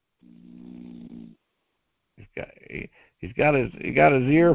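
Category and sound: human body sound, man snoring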